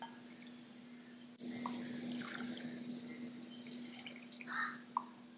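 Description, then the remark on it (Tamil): About three small glasses of water are poured steadily into a bowl of washed drumstick leaves for boiling, a continuous splashing rush that starts abruptly and runs on over a faint steady hum, with a few drips near the end. “பாருங்கள், இப்போ இந்த ஒரு குத்து கீரைக்கு நம்ம இந்த கிளாஸ் சின்ன கிளாஸ் தான், இதுக்கு நம்ம ஒரு மூணு கிளாஸ் தண்ணி வச்சுக்கலாம்.”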